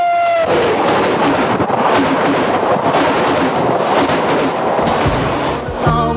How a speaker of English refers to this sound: Southbound Odyssey, the train pulls out at Kankakee and rolls along past houses, farms, and fields.